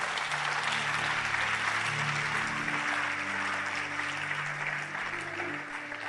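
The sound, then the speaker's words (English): A crowd applauds steadily for several seconds, a dense, sustained wash of many hands clapping at once, fairly loud and even, with a faint low hum of voices underneath. “You see, you are wrong. You were clapping for me.”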